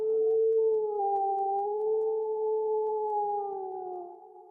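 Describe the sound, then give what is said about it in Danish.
A person gives one long, steady howl, imitating a wolf. The voice holds a sustained, slightly wavering pitch for several seconds, fairly loud, then fades out at the end. “Nå, lille bitte ulv.”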